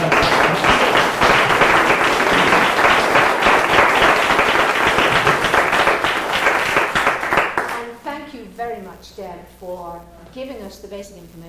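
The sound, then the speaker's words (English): A crowd of discussion participants applauds themselves steadily for several seconds, a dense, loud patter of many hands, before the clapping fades and a man begins speaking. “So why don't you applaud yourself?”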